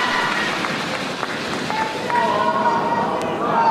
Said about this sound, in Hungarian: Ja, hallatszik az ott jelenlévő hívőknek a lelkes tapsa, éneke